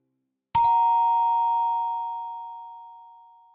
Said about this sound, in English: So we ring the doorbell instead.